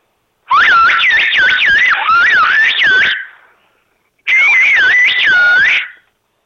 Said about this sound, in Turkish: Mesela size Hayatın Sesleri programından iyi yayınlar diyelim ıslıkla.